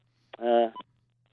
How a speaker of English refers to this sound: Now I can hear my phone beeping, which means my battery's about to die.